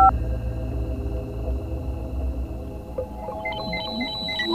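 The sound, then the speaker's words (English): A quasi-monochromatic radio signal from outer space: a steady electronic drone with narrow sustained tones, joined about two-thirds through by a series of short high beeping pulses in an irregular pattern, like a synthetic signal. “I repeat, it's a quasi-monochromatic signal. Also, the display for intensity versus time shows a set of pulses moving left to right.”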